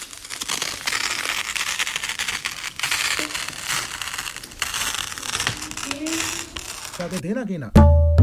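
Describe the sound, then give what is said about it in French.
A damaged sheet of paper is torn, with several seconds of continuous crackly ripping and rustling, followed by a short burst of voice at the very end. “La déchirer.”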